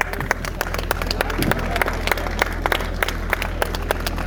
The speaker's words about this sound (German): Applaus für diesen interessanten Vortrag.